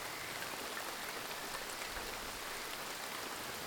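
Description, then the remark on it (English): A rain sound track playing from a sleep timer app: steady, even rain hiss fills the whole recording at a constant moderate level, a dense wash of falling drops with no pauses, voices or other sounds. “It's now ….”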